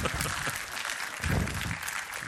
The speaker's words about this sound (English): He said, okay, he's happy. You're laughing. You're clapping. Why? Why? It's just a fun thing to do, isn't it?